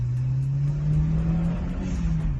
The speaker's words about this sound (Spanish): Bueno, este sonido de motor se convirtió en todo un hito, otra nueva concepción de coche con una longitud de poco más de 3,5 metros, un turismo con un chasis enredondeado de 3 puertas y un maletero espacioso.